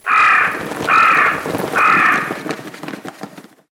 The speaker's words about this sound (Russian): Прилетает ворона и садится на дерево.